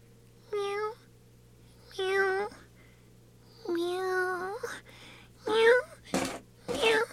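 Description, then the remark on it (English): A 22-year-old male cat meows insistently, wanting to get out, five drawn-out, wavering cries in a row with short pauses between, moderately loud, over a faint steady background hum. “It seems he really wants to get out.”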